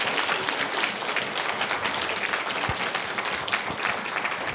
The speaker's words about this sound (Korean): 우리 박수로 우리 감사를 드릴까요?